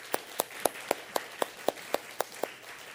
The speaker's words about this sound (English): So let's give a round of applause to one of our faithful brothers.